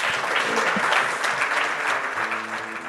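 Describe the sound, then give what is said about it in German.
Steady audience applause, a dense wash of many hands clapping at a fairly loud, even level throughout, with faint tonal hum underneath and no voices. “Das Sehr ist dein Applaus.”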